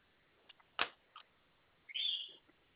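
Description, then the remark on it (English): A pet bird chirps: a couple of short, sharp peeps followed by a longer, high-pitched squeaky call, with no one talking over it. “I was just wondering if I could bring my bird down to get a checkup, please.”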